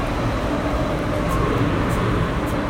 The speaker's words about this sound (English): This train. Nice. Oh, geez. We are going to be on this train for a very damn long time.